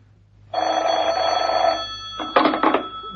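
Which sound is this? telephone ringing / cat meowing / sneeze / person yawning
telephone ringing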